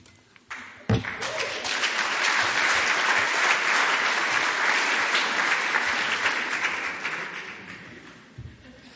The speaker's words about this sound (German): Applaus gilt …, kölscher Künstler.